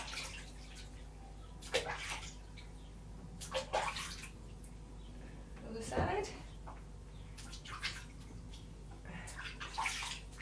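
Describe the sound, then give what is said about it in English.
Water sloshes and splashes in a bathtub in intermittent bursts as hair is washed with bubbles, while a person speaks briefly over the watery movement. “Right, so quick, put these bubbles on your head.”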